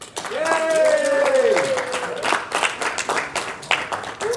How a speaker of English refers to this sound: Kind of in the middle, 78.8. Okay. That is a golf clap.